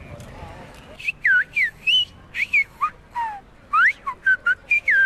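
A person whistles a rapid series of about a dozen short, sliding notes that swoop up and down in pitch, loud and fairly close over faint background noise, like a coded whistled message.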